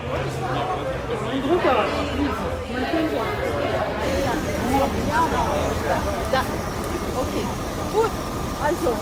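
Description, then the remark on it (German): A steady low engine rumble of a bus in Berlin runs beneath a busy crowd of overlapping voices, with passengers chatting as the bus idles and begins pulling away, bound for the Polish Baltic coast. “Alle sind mit dem Zug nach Berlin angereist und von hier aus geht es mit dem Bus weiter nach Polen.”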